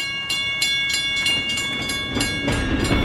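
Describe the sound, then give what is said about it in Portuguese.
A train rolls into a station, wheels clattering in a steady rhythm with high metallic squeals and tones ringing over a loud rumble that builds as it arrives. No one speaks. “O trem, mamãe, ele está chegando.”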